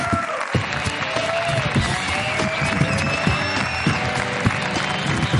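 An audience on the show La Resistencia applauds a guest steadily for about five seconds, a dense wash of clapping at even loudness, with a few scattered cheers and high whistles rising over it.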